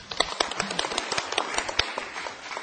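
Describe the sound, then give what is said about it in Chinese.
A crowd at a lecture on handshake etiquette breaks into applause of encouragement, many hands clapping in a dense, steady patter of sharp overlapping claps that holds at an even level throughout, with no voices. “好，掌声鼓励。”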